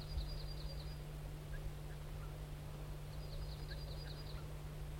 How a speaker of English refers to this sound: The crossbill wild bird gave some type 1 alarms and then flew to a spruce. There he's giving alarms again.